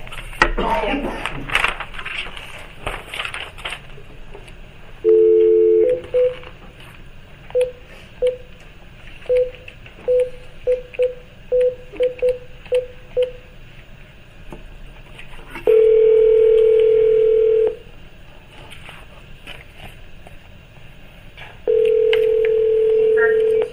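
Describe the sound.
A phone on speaker dials out with a quick series of short keypad tones, then a sustained ring tone sounds twice with a pause between, fairly loud, over faint background noise, as a veterinary board session calls a veterinarian.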